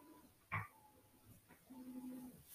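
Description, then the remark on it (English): A dog, Boomless, gives two short, sharp barks about two seconds apart, with a low whining grunt in between, while being picked up and carried. Fairly quiet, with no talking. “Here, I'm trying to carry him just for people to hear his bark.”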